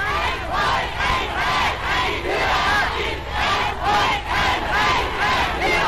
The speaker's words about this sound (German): Hitler wird bei seinem Einmarsch in Österreich mit Jubelkundgebungen empfangen.